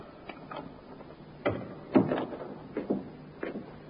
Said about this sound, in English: The door, Inspector. I heard it, Sergeant.